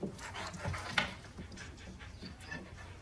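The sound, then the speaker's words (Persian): A dog named Pesteh pants steadily in quick, breathy rhythmic bursts, with a brief sharper whine or sniff near the start; no one speaks. “به نظر من بیش از حد روی هوش این سگ حساب کردی.”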